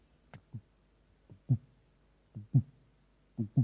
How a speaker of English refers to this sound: If your heart's beating like that, come see us.